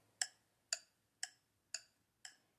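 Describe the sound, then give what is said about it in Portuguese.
The gears of an old clock tick steadily as a clockmaker listens to diagnose it, five crisp metallic ticks spaced about half a second apart, clear with nothing else sounding. “Ele coloca o ouvido bem pertinho, sente a pulsação da engrenagem e já começa a fazer o diagnóstico.”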